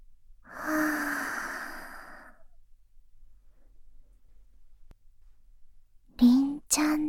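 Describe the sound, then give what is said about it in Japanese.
A soft, airy breath blown close to the microphone lasts about two seconds, followed by near-silence, then a brief breathy vocal sound near the end. “息が、とっても効いてるね。”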